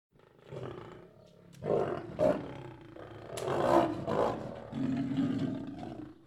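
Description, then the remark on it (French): A lion roars several times in succession, deep and rumbling bursts that swell loudly, with brief pauses between them and no talking. “Alors il rugit encore et encore.”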